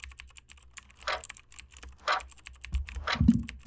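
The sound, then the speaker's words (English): Rapid, steady clatter of keys as the alphabet is typed on a computer keyboard in a timed test, a fast run of crisp clicks with a few louder thumps near the end. “So, so we're going to give you 3 tries each, whatever keyboard of your choice, and we'll see what kind of times you put up.”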